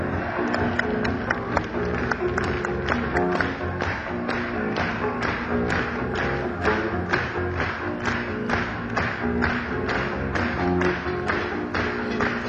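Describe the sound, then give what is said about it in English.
An audience claps along to a song in a steady, even rhythm, sharp regular beats running throughout over a continuous musical backing. “Did you call that hand clapping? Come on! Clap your goddamn hands a little bit here.”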